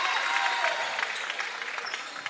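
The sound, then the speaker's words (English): A steady roar of a cheering crowd of parents, friends, family and basketball fans filling a packed gym late in the fourth quarter of a Westchester East basketball game, with dense overlapping voices and scattered bright squeaks and claps poking through the constant wash of noise. “You got to love the crowd here.”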